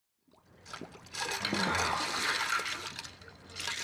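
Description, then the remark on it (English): In a movie scene, Leo DiCaprio, playing washed-up actor Rick Dalton, plunges his face into a basin of ice water, followed by sustained sloshing and splashing that swells after a moment and continues to the end, with no one speaking. “Leo DiCaprio plays Rick Dalton, a washed up actor who has a drinking problem, who's putting his face in ice water as the director comes in to talk to him.”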